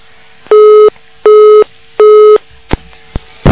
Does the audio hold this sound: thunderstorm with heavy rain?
no